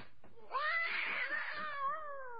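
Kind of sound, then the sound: animal, cat yowling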